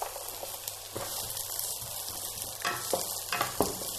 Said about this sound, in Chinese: 这个油大概热了之后呢，我们就把胡萝卜丁放进锅里边。哎呀，我的葱都倒进去了。